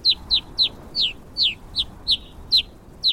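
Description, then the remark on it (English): A rapid series of about ten short, sharp descending chirps, evenly spaced, like rosy finch calls repeating over a faint background hiss. “For both brown-capped and black rosy finches, frigid, barren peaks are home sweet home.”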